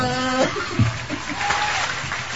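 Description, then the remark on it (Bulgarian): An audience claps in a studio, a dense, steady patter of many hands at moderate loudness, following a brief tonal sound at the start. “Как ръкопляска?”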